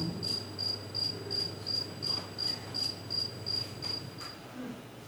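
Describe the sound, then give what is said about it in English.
A recording of a male cricket's calling song, played to female crickets walking on a trackball in an experiment: a steady train of about a dozen evenly spaced, high-pitched chirps repeating roughly three times a second, heard alone over a faint low background hum. “Female crickets hear recordings of a male calling song and respond to it by walking on a trackball toward the direction of the sound.”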